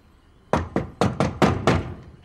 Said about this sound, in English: Rising to her feet, Mary slaps her hand on the closet door.